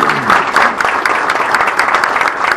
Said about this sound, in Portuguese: Palmas para o Miguel.